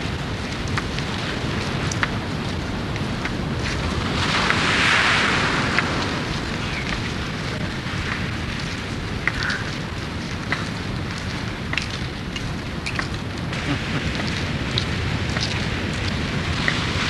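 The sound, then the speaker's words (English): Steady rain pours down amid gusting wind from a storm, a dense, continuous hiss with scattered sharp patters and a brief louder swell of spray around five seconds, no voices present. “There's very bad weather the last few days. The storm must be in the neighborhood.”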